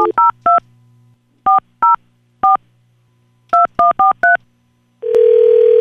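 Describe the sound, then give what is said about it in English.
Eleven touch-tone phone dialing beeps in quick bursts of three, three and five as a phone number is dialed, then a loud steady ringing line tone begins and holds to the end. No one speaks. “Can you hear it ringing”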